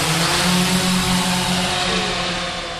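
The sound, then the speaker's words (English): A four-bladed quadcopter drone, lifted off from a warehouse floor, hovers and passes overhead with a steady, buzzing rotor whine and a low humming tone underneath, holding an even loudness throughout with no voices. “The drone passes over our heads, creating a little breeze and hovering in midair like a bird in the wind.”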